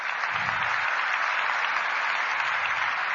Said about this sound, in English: Thank you, and let's have a big round of applause for all the awardees.